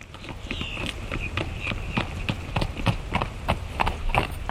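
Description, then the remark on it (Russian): Horse hooves clip-clop in a steady rhythm, a quick series of sharp knocks, over a soft outdoor background. “И вот, наконец, добрался он до родника. Радостный соскочил с коня”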